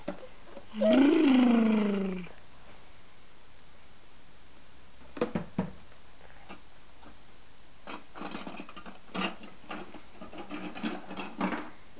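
A child's voice imitates a car engine with one loud, buzzy vroom that rises in pitch for just over a second, followed by quiet clicks and light rattling.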